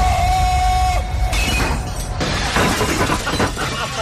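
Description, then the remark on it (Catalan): Glass of a newsroom shatters loudly, a sharp crash followed by a few seconds of tinkling, scattering shards and debris settling, with a brief ringing tone at the start. “Els vidres de la redacció.”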